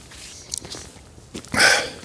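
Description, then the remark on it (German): Wet clicking and smacking mouth sounds as a cough drop shifts around inside the mouth into the cheek, a few short ticks followed by a brief louder slurping rustle, with no talking. “Ich habe mir einen Hustenbonbon reingesteckt. Das klingt natürlich nicht so gut. So in die Backe kommt das.”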